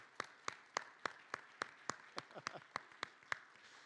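Steady, evenly spaced handclaps, about a dozen sharp claps in a brisk rhythm, fairly light applause rather than a full crowd, with a faint brief voice sound partway through.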